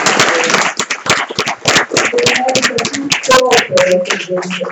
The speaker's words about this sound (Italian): Allora, io direi che facciamo un applauso alla signora.